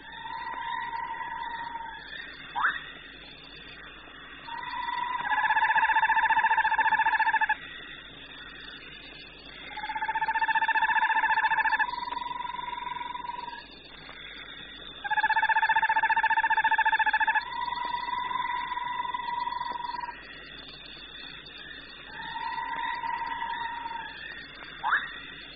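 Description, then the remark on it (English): Loud, drawn-out trilling calls of a red-banded frog, a shiny black frog with red bands on each side and suckers on its toes, in the bushveld at night. Each call lasts a couple of seconds and repeats about every five seconds over a steady high-pitched insect whine, with no talking. “Amongst the various calls will be heard the loud trilling of the red-banded frog, a beautiful creature, shiny black with red bands on each side and suckers on his toes.”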